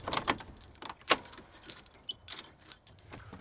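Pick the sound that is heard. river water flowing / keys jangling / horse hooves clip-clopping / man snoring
keys jangling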